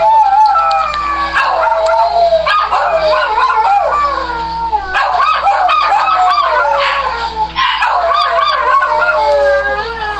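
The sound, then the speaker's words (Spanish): Several female pet dogs react to an eclipse, howling and whining continuously in long, wavering overlapping cries. The cries are loud, with agitated yelps breaking in throughout and a steady low hum underneath. “Dice, no les había podido escribir, pero esta fue la reacción de mis perritas con el eclipse.”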